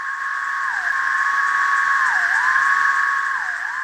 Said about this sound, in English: Male periodical cicadas produce songs using a pair of timbals or ridged membranes on the first abdominal segment, which is hollow and resonant. They collectively pause even, which conveys a sort of mechanical sound.